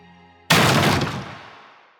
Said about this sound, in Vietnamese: Cánh cửa phòng số 4A đối diện đổ sập xuống như bị nổ tung.